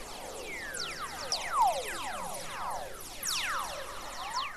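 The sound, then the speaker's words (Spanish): Descending whistler radio waves bouncing within Earth's magnetic field, where higher frequencies travel faster than lower ones: many overlapping whistling tones glide from high pitch down to low, one after another, over a steady background hiss, with no voices. “Y debido a que las frecuencias más altas viajan más rápido que las más bajas, suenan con un característico tono descendente, parecido a un silbido.”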